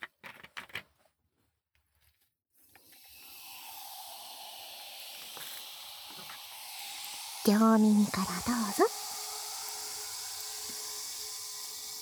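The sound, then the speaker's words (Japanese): A close, steady fizzing crackle rises in a thin glass after a brief spoken phrase and keeps hissing evenly throughout, with a short stretch of soft talking over it partway through. “グラスが薄いから、いい音するね。”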